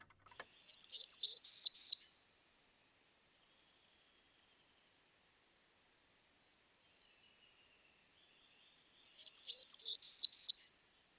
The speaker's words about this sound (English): Now that's rather high pitched. Distinctive. Yes, our warblers.